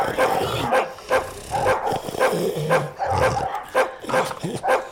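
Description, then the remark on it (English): Dogs bark in a rapid, uneven series of sharp barks and yips, fairly loud, with a few whiny notes between bursts and no talking, while the dogs are eating. “With roses all over the floor, and these dogs are eating.”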